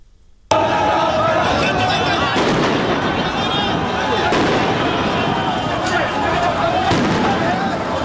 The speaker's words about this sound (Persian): بنا به گزارش الجزیره، نیروهای امنیتی عراق صبح روز جمعه برای متفرق کردن معترضان اقدام به شلیک گلوله و پرتاب گاز اشکاور کردند.